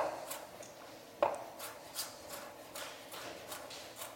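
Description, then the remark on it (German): A chef's knife dices food into cubes on a cutting board: a series of soft, crisp chops in an uneven rhythm, with one sharper knock early on, and no voices. “Und dann in Würfel.”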